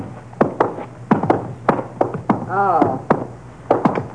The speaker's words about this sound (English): It's open, Ma. What are you knocking for?